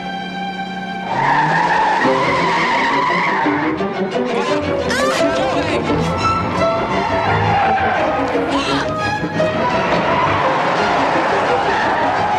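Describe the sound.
A car's tires squeal in a loud, sustained skid, then the engine roars as the vehicle speeds off after the men in it tried to run people down and dragged a woman into the car, with muffled voices and commotion mixed in.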